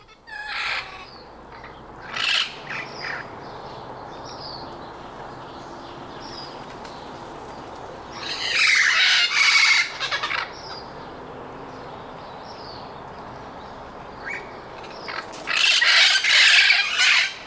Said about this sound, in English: A loud bird. Noisy. That's a couple birds in there. What you just heard were the squawks and squeals of the red-crowned parrot, a species found in northeast Mexico and the lower Rio Grande Valley of Texas, or simply known as the Valley.